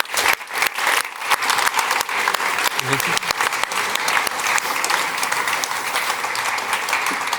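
An audience breaks into sustained applause, dense overlapping claps forming a steady, loud wash of noise that holds evenly for several seconds.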